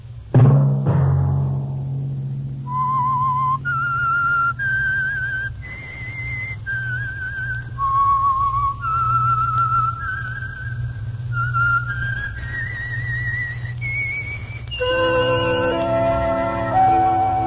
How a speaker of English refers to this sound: Let that whistle be your signal for the Signal Oil program, The Whistler, each Sunday night at this same time.